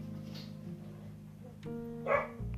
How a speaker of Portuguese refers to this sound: Ai, peraí, cachorro de novo.